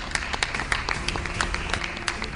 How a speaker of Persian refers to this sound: خواهش میکنم تشویق کنید مهمونمون رو. خانم ها آقایان،